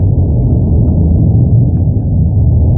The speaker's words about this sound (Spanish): Que a esta hora dábamos que la erupción del volcán de Cumbre Vieja en La Palma y 4 semanas después, a esta hora sigue muy activo y con nuevas explosiones y emisión de lava. Sonido en directo del volcán.